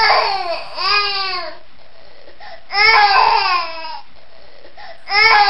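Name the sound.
baby crying loudly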